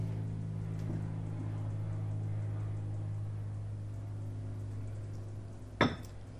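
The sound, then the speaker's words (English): An airplane drones steadily overhead, a low, even rumble that holds throughout with no talking, while a person pauses to sip water; a single sharp clink of a glass or cup breaks in near the end. “I'll wait for the plane to go by while I take a sip of water.”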